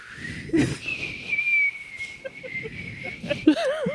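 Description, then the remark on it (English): A person whistles one long, steady high note that ends in a quick wavering warble, imitating a little whistle, while other voices murmur and laugh faintly underneath. “Well, and you know, it'd make a little whistle sound.”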